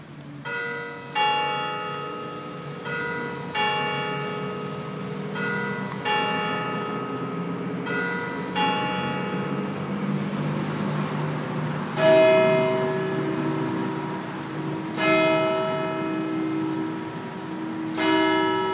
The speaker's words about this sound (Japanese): キルシュの南側にある広場、広場といっても小さなものですけども、ここのベンチに座って、鐘が鳴るのを待ちたいと思います。